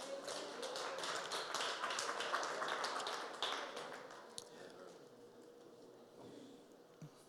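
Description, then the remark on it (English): A standing audience clapping hands to the Most High God at the end of a teaching, a dense, irregular burst of many claps that holds steady for about four seconds, then thins out to a few scattered, fainter claps. No voices are heard. “Clap your hand to the Most High God.”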